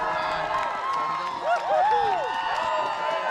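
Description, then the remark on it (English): A small but enthusiastic crowd on Front Street in Nome cheers and whoops outdoors, greeting the first-place Iditarod musher and his dogs, with scattered shouts and rising voices blending into a steady roar of excitement. “As for our first place musher again, Thomas Warner, the crowd on Front Street in Nome that greeted him and the dogs much earlier today was much smaller than usual, but as you heard, very enthusiastic.”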